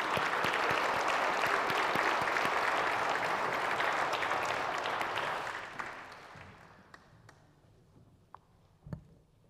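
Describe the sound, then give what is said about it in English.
An audience applauds steadily to welcome the preacher as she comes up, a dense wash of clapping that holds for several seconds, then thins out and fades to scattered claps and quiet shuffling. “For now, as we welcome our preacher, would you just give her a hand of applause as she comes up, please?”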